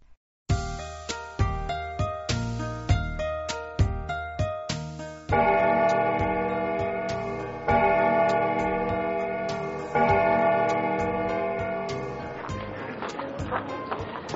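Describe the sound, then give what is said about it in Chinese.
A clock tower bell chimes at the Palace of Westminster, the UK Houses of Parliament beside the River Thames: a quick run of bright, rhythmic strikes, then three slow, loud, resonant tolls that each ring out and linger before the next, with no voices. “哇，好好听的钟声哦。”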